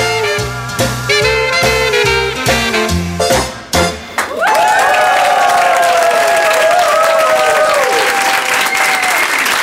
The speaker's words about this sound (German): Herzlichen Dank für diesen warmen Applaus.